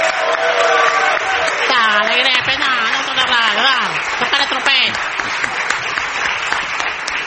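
An audience cheers and claps loudly and steadily to greet a singer, with excited shouts and whoops rising over the dense wash of applause throughout.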